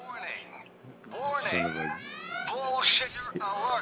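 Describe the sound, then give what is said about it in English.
A prank ringtone alarm set on an iPhone by a friend goes off, a loud electronic sound with rising, siren-like sweeps and buzzy harmonic tones that warble and repeat over a few seconds. “one of my buddies booby trapped my iPhone on me.”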